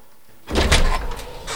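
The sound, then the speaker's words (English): After a short quiet moment, a front door is opened with a loud rattling, scraping rush that lasts about a second, then trails off into a softer shuffle. “He gets off his bed and goes to answer the front door.”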